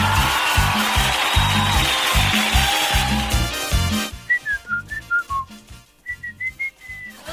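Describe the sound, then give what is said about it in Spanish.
After a few seconds of loud, dense background noise, a person whistles a short, clear tune in two phrases, the notes stepping down and then holding steady, over a steady thumping beat. “Bueno, comenzaron a silbar, pero lo que pasa es que hay personas que no pueden silbar.”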